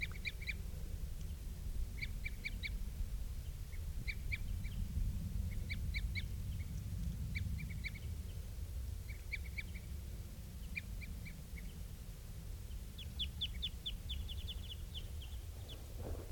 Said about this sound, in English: I'm getting closer to where the birds are. And I think I hear something that sounds almost like female begging calls.